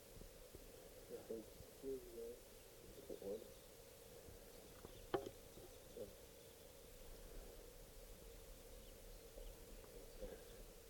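A small flock of wild birds perched, fluffing and preening in the top of a tree (five birds: three adult males, two adult females) gives soft, low, cooing calls in short scattered bursts, mostly early on, over a steady background hum, with one sharp click partway through.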